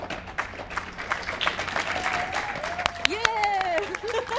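A crowd at a meeting's award ceremony claps steadily and densely throughout, with excited whoops and a rising whistle or cheer cutting through the applause in the second half.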